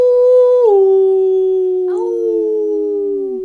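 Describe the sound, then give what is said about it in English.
A lone wolf howl rings out loud, holding a steady pitch before sliding lower and trailing off over about three seconds, with no voices around it. “Wolf.”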